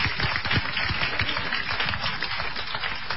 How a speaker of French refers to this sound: Mais on l'applaudit. On l'applaudit très fort. Super.